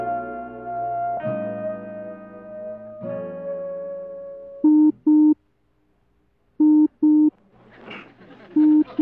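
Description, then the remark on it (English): Electronic beeping from Arnold, beeping at a rock: short, steady mid-pitched tones in quick pairs with brief silences between, following a few seconds of sustained, droning electronic tones, with a burst of noisy chatter before a final beep. “The rock is oinking at Arnold, and Arnold is beeping at the rock.”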